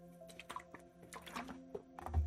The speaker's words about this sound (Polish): Ja jednak chyba się napiję trochę tej, nie mam jeszcze wody.